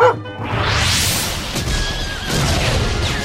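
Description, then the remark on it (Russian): Russian cannon fire rumbles through a dense, continuous battle din at dawn on a December day during the assault on the fortress of Izmail, with heavy low booms rolling one into another and a horse whinnying faintly amid the loud uproar. “Пушки так и палят! Грохот какой!”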